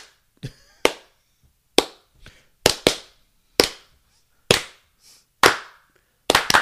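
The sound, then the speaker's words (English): A hand-clap rhythm performed alone, showing the distinct hand clap of a song that audiences clap along to: about ten sharp, loud claps in an uneven pattern, some in quick pairs, with short pauses between groups. “Yes, there's a distinct hand clap. Do you want to show us the hand clap”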